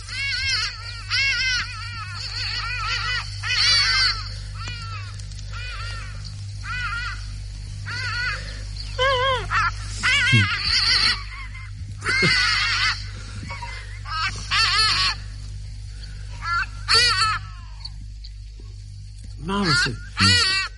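A small flock of hadada ibises flying by in Queen Elizabeth National Park, Uganda, calls repeatedly with loud, harsh honking cries, overlapping bursts that rise and fall as the birds pass, over a low steady background hum.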